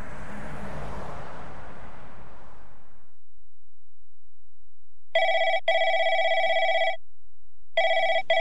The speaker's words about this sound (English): Is that your phone? Oh, yes.